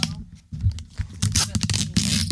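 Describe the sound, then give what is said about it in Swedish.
Adhesive tape is pulled and torn off a roll and applied, giving several short, raspy ripping bursts with quiet speech underneath. “Ju mer tejp vi sätter på den desto bättre.”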